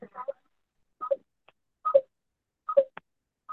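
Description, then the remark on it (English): Short electronic phone keypad tones beep about five times at a steady pace, each a brief dual-pitched blip separated by short silences, with no one talking, as a caller presses star six to unmute on a phone-in meeting. “You can hit star six to unmute yourself.”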